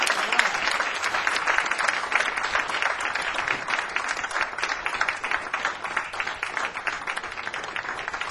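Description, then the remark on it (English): A crowd applauds steadily for a guitarist, a dense wash of many hands clapping at an even, fairly loud level that holds for the whole stretch without pausing. “So let's give a nice round of applause, ladies and gentlemen, for the one and only Mr.”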